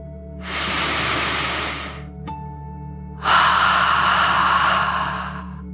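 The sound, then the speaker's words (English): A slow, deep 'dragon breath' inhale followed after a short pause by a long, forceful exhale, both breathy, with no talking. “As you imagine your whole body lightly floating in the water, let's take one more deep dragon breath, in and out.”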